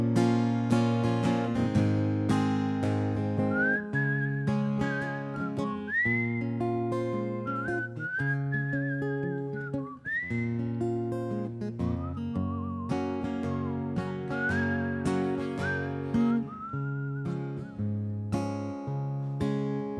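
A whistled melody with light vibrato rises and falls over a full instrumental backing of steady chords and bass, the tune carrying clearly above the music throughout.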